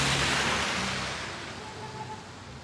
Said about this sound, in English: Even this quick storm overwhelms the town's damaged drainage system. And before long, the streets are streaming with water. It's hard to imagine a big resort here when the terracotta drain pipes can barely handle a spring thunderstorm.